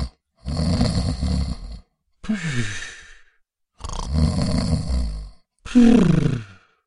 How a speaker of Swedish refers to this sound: Vips låg på sidan med benen rätt ut. Han sov så gott att han snarkade.